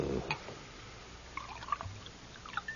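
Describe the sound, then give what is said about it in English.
Liquid poured into a glass, a soft, quiet trickle with light gurgles and clinks, starting after a low thud and continuing unevenly for a few seconds. “You drink, huh? Of course. Will you pour for me?”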